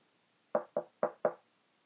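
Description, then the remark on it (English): Four quick, evenly spaced knocks on a door, each a sharp hollow rap ringing briefly, heard alone against near silence. “Who's at the door?”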